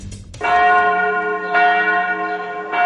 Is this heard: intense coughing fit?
no